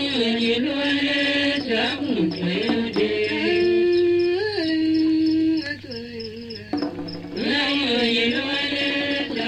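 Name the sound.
cricket chirping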